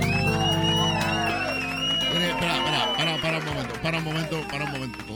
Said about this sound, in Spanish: Para un momento. O sea, los aplausos son de lata.